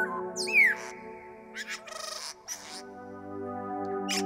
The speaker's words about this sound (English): Trees arch overhead, leaves rustle, birds call. There's something almost primeval about a forest, don't you think?